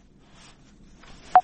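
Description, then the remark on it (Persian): Two short, loud electronic beeps from a phone line as a listener's WhatsApp call to the Radio Azadi studio cuts off, arriving in quick succession at the very end, following a stretch of faint, low background hiss with no one speaking. “بله قطع شد فکر میکنم.”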